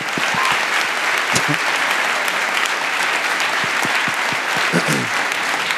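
Steady audience applause fills the whole stretch, a dense wash of many hands clapping at an even loudness, with a few sharper individual claps and faint voices mixed in.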